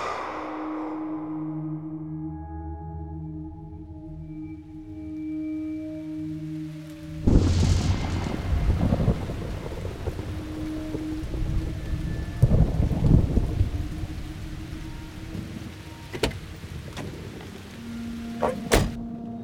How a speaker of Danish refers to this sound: Det regner i København i sommeren 1987. Og der er ikke noget, der tyder på, at det vil holde op igen. Vejrudsigten siger regn, regn og mere regn.